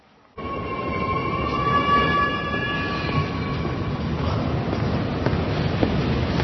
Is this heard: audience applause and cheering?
no